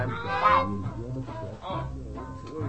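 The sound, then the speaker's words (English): Ducks quack in a loud burst of nasal, overlapping honks that carry on for a few seconds with no one talking. “Oh, you want to jam with the Ducks?”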